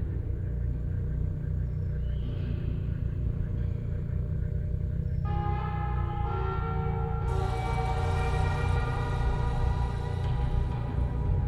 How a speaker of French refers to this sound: Le vieil homme sonne la cloche